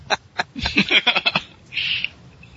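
A hiccup sound effect used to censor a curse: a quick run of short, choppy vocal bursts in an uneven rhythm, then a brief airy hiss, with no talking.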